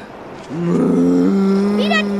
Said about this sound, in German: Ja. Wieder diese Kühe.